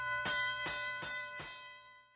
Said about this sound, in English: Ricky hears the school bell ringing.